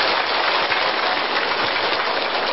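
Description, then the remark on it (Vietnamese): A crowd applauds warmly to thank a senior Buddhist monk at the end of a morning dharma talk, many hands clapping in a dense, steady crackle that holds at an even level throughout, with no voices over it. “Xin được tri ân thầy bằng một tràng pháo tay thật nồng nhiệt nhất.”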